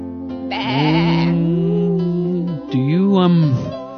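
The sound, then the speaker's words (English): A sheep bleats loudly, one long wavering call followed by a second shorter quavering bleat, with no other sounds around it. “Do you have any headless sheep back there?”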